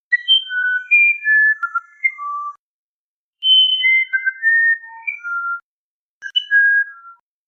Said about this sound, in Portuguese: Este, então, transformou a alma do jovem no pássaro Irapuru, que mesmo com escassa beleza, possui um canto maravilhoso, semelhante ao som da flauta, para alegrar a alma de Mainá.